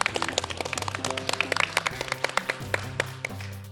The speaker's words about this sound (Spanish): Un aplauso, invitado, sí, por favor.